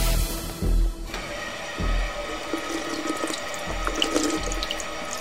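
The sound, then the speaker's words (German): Water pours steadily from a running tap, a continuous hiss and splash with a few low thumps near the start and small bubbling spatters throughout, no voices. “Wasserhahn auf, Kopf drunter, Durst löschen.”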